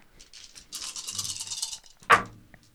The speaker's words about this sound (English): No, I'm going to be rolling six dice as it is, so seven dice as it is.